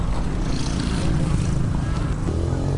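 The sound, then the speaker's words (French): A Jakarta motorbike engine runs at a steady, unbroken drone as a woman takes the bike out to head to the market, its low rumble filling the whole stretch at an even, fairly loud level with no voices present. “Elle fait sortir sa moto Jakarta, direction le marché de Bulkasombogo.”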